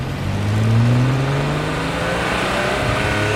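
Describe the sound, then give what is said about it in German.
The engine of a bright red open-top sports car revs, its deep growl climbing in pitch over the first second and then holding a steady, strong drone, with no voices. “Ein knallroter Sportwagen mit offenem Coupé und ich sitze drin.”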